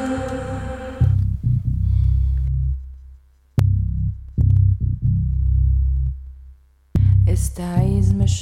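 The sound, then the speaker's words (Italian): A dark trip hop track in the Bristol sound style, built on slow, heavy bass throbs that pulse in repeating phrases, with sparse, brighter synth tones flaring up at the start and again near the end. “ricorda sicuramente le atmosfere più oscure del sound bristoliano, di quel sound bristoliano chiamato trip hop.”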